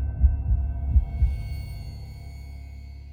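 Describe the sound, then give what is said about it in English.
A deep, muffled heartbeat pounds a few times in quick succession, loud, the heart of someone stumbling away from a window, then fades out into a low, steady hum with no one speaking. “Elsie gasped and stumbled away from the window, heart pounding.”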